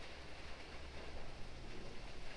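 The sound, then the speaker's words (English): Soft, steady rain patters on a roof in a dense, even hiss of countless small drops, quiet and continuous, with no voices. “So you may be snuggled in a blanket in front of a fire, listening to the raindrops pitter-patter on the roof.”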